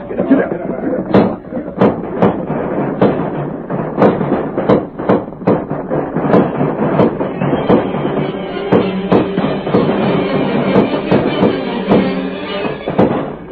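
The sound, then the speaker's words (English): Rapid, irregular gunshots crack out again and again, loud and sharp, over a dense rumbling commotion with voices mixed in, as outlaws thunder down upon a village with guns blazing, the shots bunching together and then thinning toward the end. “Outlaws thunder down upon the village, with guns blazing.”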